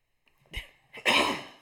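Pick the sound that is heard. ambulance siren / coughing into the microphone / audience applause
coughing into the microphone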